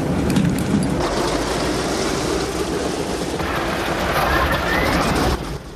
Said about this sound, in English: The B-17's propellers begin to spin into action, sending out a trail of grey smoke. Inside the cockpit, buttons and switches are pressed and flicked. The plane's engines roar into life.